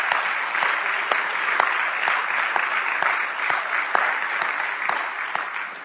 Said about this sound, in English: Let's clap our hands for that, shall we? Hallelujah!